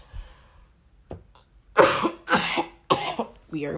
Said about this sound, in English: we are just coughing.